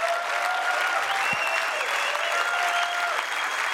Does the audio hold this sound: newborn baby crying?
no